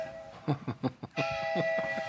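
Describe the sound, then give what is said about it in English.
A train rumbles as it goes right by, its broad steady roar swelling partway through with faint sustained tonal ringing over it, after a few brief knocking bursts at the start. “Train going right by.”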